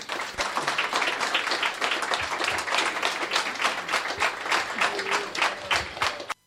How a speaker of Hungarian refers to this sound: Egy nagy tapssal akkor búcsúztatjuk őket.